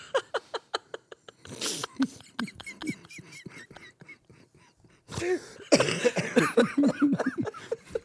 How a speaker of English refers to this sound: I'm sorry for that. I really am sorry about the coughing and everything else. I really am.